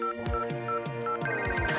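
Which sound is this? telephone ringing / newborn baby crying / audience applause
telephone ringing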